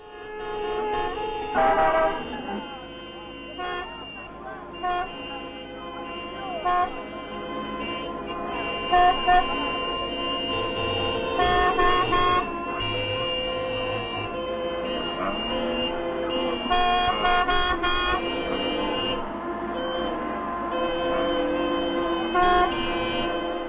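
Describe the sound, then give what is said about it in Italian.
Busy street traffic with a dense tangle of honking horns, overlapping tones blaring almost nonstop at a steady, loud level, with no voices. “Non so se la nostra voce sovrasta troppo questo traffico, però la nostra idea era un po' di parlarvi con sotto questa scena”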